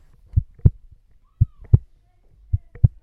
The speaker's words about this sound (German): Ist das etwa ein Herzschlag? Wie habt ihr das denn gemacht? Wir haben ein Geschirrtuch rhythmisch und ruckartig auseinandergezogen. Und das hat dann dieses Geräusch ergeben.